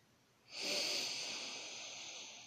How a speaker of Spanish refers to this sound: En este momento te vas a permitir ahora hacer una respiración profunda para regresar al aquí y al ahora.